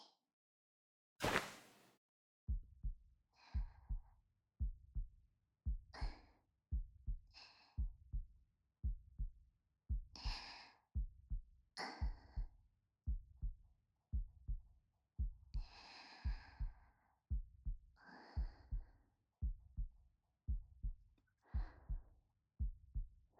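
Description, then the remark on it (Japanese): A steady human heartbeat thumps low, a soft muffled pulse roughly once per second, with quiet breaths drifting over it now and then. “私の心音、聞こえてますか？”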